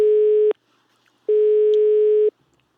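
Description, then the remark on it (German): A telephone ringing tone of an outgoing call placed to a caller during a radio broadcast: a steady electronic buzz that sounds briefly, pauses, then returns for about a second, clear, with no one speaking. “So, jetzt mal die Telefonnummer mal raussuchen.”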